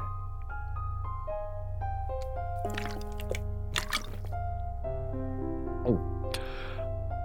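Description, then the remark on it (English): Liquid pours into a cup in short splashing bursts, ending with a rising gurgle as it fills, all over a steady background of sustained musical tones. “So I might as well have a cup. Or six.”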